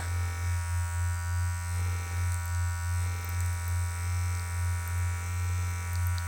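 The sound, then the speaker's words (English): A steady electric vibrator buzz hums continuously with a low, droning pitch and a subtle rhythmic pulsing in loudness throughout, with no voices. “Oh, that's how fast it's vibrating.”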